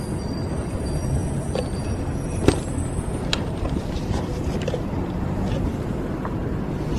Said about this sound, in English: Exiting the station. Passing through the outdoors bus waiting areas.